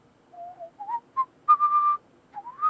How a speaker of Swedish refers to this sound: Håll ner ett finger på skärmen. Du hör nu ljudet av någon som visslar. Dra fingret mot ljudet tills du hör ett klickljud.